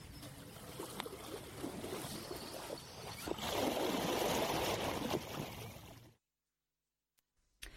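Busy, irregular splashing of water fills about six seconds, swelling louder and broader in the middle, then cuts abruptly to silence with a faint click at the end. No one speaks.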